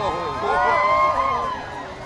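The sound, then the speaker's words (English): A large, cheerful crowd at an outdoor rally by the Lincoln Memorial chanting together in a festive, lively mood, its blended voices swelling loudly through the middle before easing off slightly, with a dense murmur of open-air babble underneath. “Still, a festive atmosphere permeated the cheerful crowd as the civil rights leaders walked arm in arm over to the Martin Luther King Jr.”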